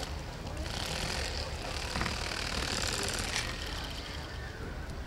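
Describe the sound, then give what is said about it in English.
A knife saws and crunches through the somewhat bigger bones of a fish being filleted into a boneless fillet. It moves in a few short, gritty bursts, with scraping between them, set against a steady low background hum. “You'll hear it kind of fighting through the bones a little bit.”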